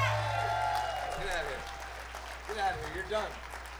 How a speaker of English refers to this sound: Big round of applause for them and ….